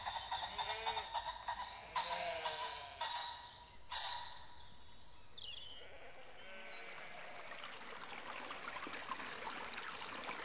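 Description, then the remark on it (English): The River Lim flows steadily into Lyme Regis with a continuous rushing, trickling wash, moderately loud, with a few faint bleat-like calls in the first few seconds. “Coming into Lyme along the River Lim and the end of your Wessex Trail, you will pass the town mill.”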